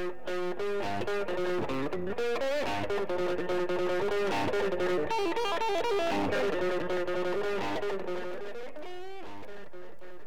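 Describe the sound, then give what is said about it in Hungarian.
A heavily distorted electric guitar plays a sustained, gritty melodic line with bending notes, loud and continuous throughout, with no voices present. “És megszületett az első effekt, a torzító.”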